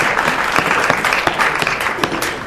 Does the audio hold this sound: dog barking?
no